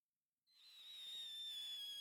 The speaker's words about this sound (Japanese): 花火、始まったみたい。ふん、ここからでも見えるんだね。すごくいい穴場を見つけたみたい。寄り添いながら、ゆっくり花火を見られるなんて、贅沢だね。